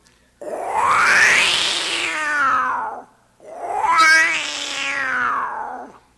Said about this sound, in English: Finally, the Florida bobcat, wildcat, or wampus kitty, or whatever you want to call him.